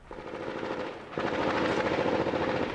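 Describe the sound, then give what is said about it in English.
Sustained bursts of automatic gunfire around dawn in Sadr City in 2006 crackle in a rapid, steady rhythm, growing noticeably louder and denser partway through, with a low rumbling drone underneath and no voices. “Gunfire in Sadr City around dawn.”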